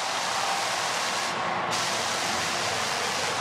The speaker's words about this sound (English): There's … on Channel 7, and I'll tell you, that little static noise in the background was the jets and the fireworks going off.